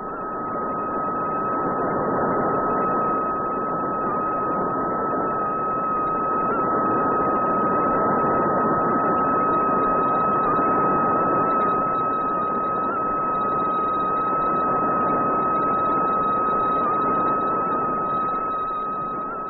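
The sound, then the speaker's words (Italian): A transmission from the Tiros weather satellite, the hurricane sentinel: a steady, unbroken whistling tone rides over a dense wash of radio hiss, with faint higher tones above, holding constant for about twenty seconds with no voices. “La voce di Tyros, la sentinella degli uragani, è questa.”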